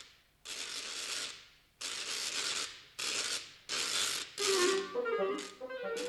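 A homemade wooden ratchet rattle, said to play waltzes and polkas when swung, is whirled in six loud, rapid clattering bursts separated by short pauses. In the final bursts a faint tinkling melody rises through the rattle.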